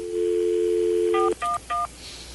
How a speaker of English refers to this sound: Hey, let's call 411 right now and ask them what it's costing us.